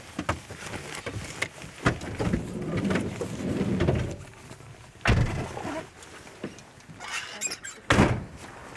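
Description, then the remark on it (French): A door is opened and shut, with scattered clicks and rattling handling noises followed by two heavy thuds as it swings closed, against a low background rumble. “Je vais ouvrir la porte.”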